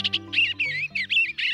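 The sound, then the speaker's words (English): An eastern bluebird gives a run of soft, warbling notes in short, high-pitched phrases with brief gaps between them, over a steady low hum. No one speaks. “In the 60s and 70s, people across North America installed bluebird boxes, and that helped reverse the decline of eastern bluebirds, a conservation success story.”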